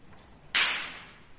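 A single sharp whip crack, Santa Claus cracking his whip over his reindeer sleigh, snaps out suddenly, bright and loud, then trails off in a hissy decay over the next second against a quiet background.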